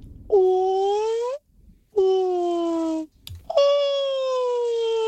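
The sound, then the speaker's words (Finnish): A listener's human voice imitates a whale call as a renewed attempt, with three long, loud moaning tones: the first gently rising, the second slowly sagging, the third steady. A brief click sits between the last two. “Valan ääntä.”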